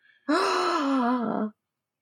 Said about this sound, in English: Gasp.